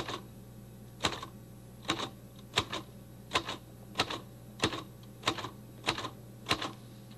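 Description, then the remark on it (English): A manual typewriter clacks out about ten sharp key strikes, typing the word "typewriter" at a steady, unhurried pace, each a crisp metallic snap over a faint low hum, with no voices. “Now let's press enough of these keys down to write that word typewriter.”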